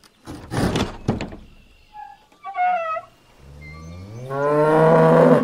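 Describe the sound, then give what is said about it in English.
In a barn, a cow moos in a long, loud, rising bellow after a couple of thumping knocks and a brief higher animal call, sounding slightly echoey. “Oh, sorry, Miss Cow. We are looking for ducks.”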